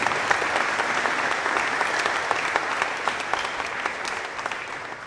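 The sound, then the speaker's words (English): Steady applause from an audience, many hands clapping at once in a dense, continuous patter that holds at an even, moderate loudness for several seconds with no voices. “There's a lot of, there was clapping in the background.”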